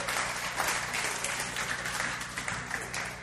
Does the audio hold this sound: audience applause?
yes